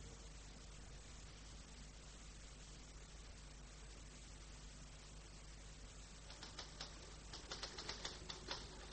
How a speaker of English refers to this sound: It's mine. You own an electric typewriter? Sure. Well, how did you get it? I ordered it from a shop.